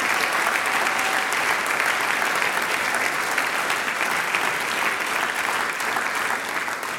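Sustained audience applause for a folk music group's playing, dense and steady, many hands clapping at an even loudness for several seconds with no talking over it.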